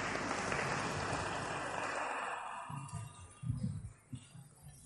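A crowd's round of applause, dense and steady at first, then thinning out and fading after about two seconds, leaving a few low murmurs and scattered sounds.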